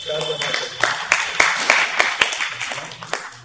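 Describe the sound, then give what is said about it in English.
A crowd breaks into applause for a mother who has given her son to the temple, sharp hand claps ringing out in a quick, uneven patter at steady moderate volume, with a low murmur of voices beneath. “So you all clap for”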